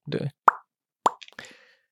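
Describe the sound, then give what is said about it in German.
Two hollow, resonant plops about half a second apart, crisp, with a brief rustle before them and a few softer clicks and breathy noises trailing after. “Alles fürs Plopp-Geräusch.”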